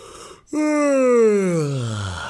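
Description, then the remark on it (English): A long, loud yawn, opening on a sharp intake and sliding steadily downward in pitch for about two seconds, performed by a person imitating a big yawn on waking up while stretching long arms wide. “One day, Luca woke up and stretched his long arms nice and wide and gave a big yawn.”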